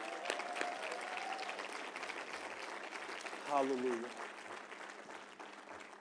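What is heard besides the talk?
audience hand clapping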